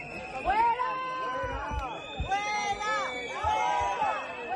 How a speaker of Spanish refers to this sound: Aún así, todo esto no ha impedido los gritos, los abucheos y los pitos cuando ha llegado el presidente y también cuando se ha marchado.